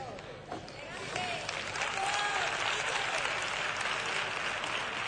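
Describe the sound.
Loud, dense audience applause swells after a brief quieter start and holds steady, a continuous crackle of many hands clapping with a few faint voices and whistles mixed in.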